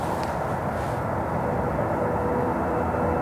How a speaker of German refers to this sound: Aber jetzt hört man aber den Zug jetzt ganz laut in dieser Richtung hier. Ja, da.